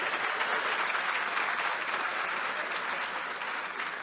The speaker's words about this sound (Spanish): Un aplauso.